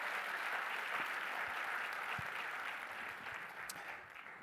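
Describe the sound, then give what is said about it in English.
An audience applauds the worship team after a Christmas song, in a steady, dense wash of clapping that holds for several seconds and eases slightly toward the end, with no voices rising above it. “Let's give the worship team a hand clap one more time.”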